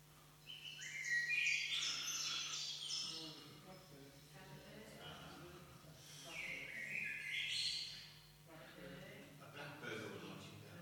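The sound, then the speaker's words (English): A blackbird sings in two bright, warbling phrases separated by a pause, rich fluting notes carrying clearly over a soft background hum, with faint voices murmuring underneath. “It is actually a blackbird.”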